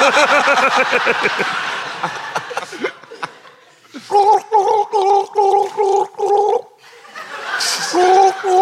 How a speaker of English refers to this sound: Why can none of you... Can white people not gargle?